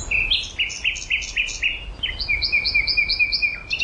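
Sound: nightingale singing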